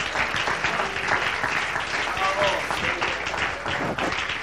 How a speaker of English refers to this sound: Oh, could somebody clap your hands unto the Lord.